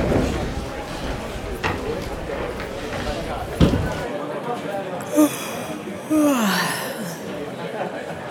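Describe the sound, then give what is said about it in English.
A single long, drawn-out yawn with a falling pitch, following a stretch of rustling background noise and a couple of short breathy sounds. “That was a big yawn.”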